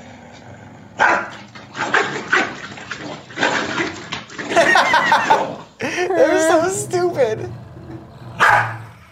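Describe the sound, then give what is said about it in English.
An angry corgi barks and yelps in repeated sharp bursts, ending in a drawn-out whining growl, fairly loud, while people talk over it. “I've never seen an angry corgi before.”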